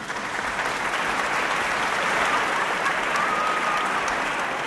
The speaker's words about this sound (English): It walked, yes, you heard me, it walked onto stage to a thunderous applause worthy of Leonard Bernstein.